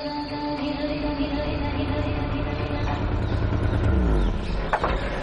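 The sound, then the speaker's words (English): A car engine runs steadily while driving toward an ashram, with a constant droning hum and deep rumble, growing slightly louder and rougher near the end as if revving as the engine overheats, with no clear talking. “Take it out and drive straight to the ashram. And drive between 40 and 50.”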